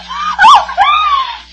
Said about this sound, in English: Mrs. Phippany screamed.